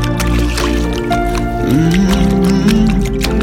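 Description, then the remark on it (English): Water drips and splashes in a quick, irregular patter, fairly loud, over a steady low droning hum with a faint wavering tone. “Touch it, everyone that hears this sound. Believe in water.”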